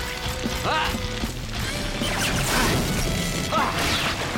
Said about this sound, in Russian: Альф своими металлическими кулаками разбивает летящие вниз глыбы льда.